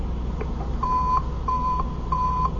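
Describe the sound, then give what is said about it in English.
A receiver, tested by hitting its receiver switch, gives off a loud, steady electronic beeping: three even, mid-high tones about half a second apart, ringing over a constant low rumble and hiss with no voices. The signal is loud because the source is close. “Once we get out in traffic, the signal is going to be a lot weaker.”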